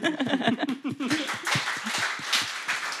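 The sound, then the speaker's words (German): Brief chuckling voices give way to a burst of crowd applause sound effect, a dense wash of clapping that fills the last couple of seconds at steady volume. “Applaus kann es auch, das hört man, ne?”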